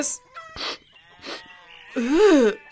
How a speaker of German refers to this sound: Der Hahn auf dem Misthaufen nahm ihr diese Bemerkung nicht krumm, sondern krähte einfach in die andere Richtung weiter.